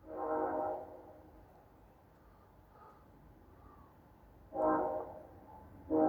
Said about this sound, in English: Listen to that train as I'm saying this.